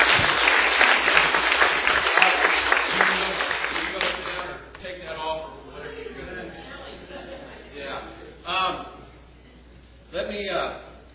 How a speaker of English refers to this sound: So if you can, give Pastor Olo and his wife and their work a big round of applause.